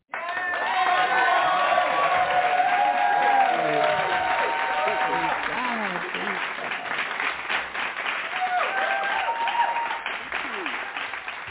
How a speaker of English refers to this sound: So we're going to welcome her with a hand clap praise.